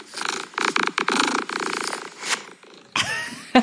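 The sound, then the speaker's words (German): A male cat purrs loudly, a steady rhythmic rumble in pulsing bursts, ending with a brief rustle and a short shuffling noise. “Ich hoffe, was wir da hören, ist Schnurren und nicht Kotzen vom Kater.”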